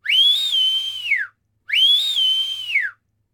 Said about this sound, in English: goes to the window and whistles.